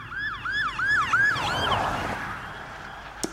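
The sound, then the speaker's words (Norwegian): A police car siren yelps in rapid rising-and-falling sweeps over low traffic rumble as the car comes at high speed, fairly loud at first, then blurring and fading after a couple of seconds, ending with a sharp click. “Og så hørte jeg en politibil som kom i en voldsom fart.”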